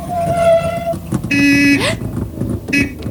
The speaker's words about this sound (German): Das gibt's doch nicht. Ich hupe und hupe und du rennst mir in die Kühlerhaube.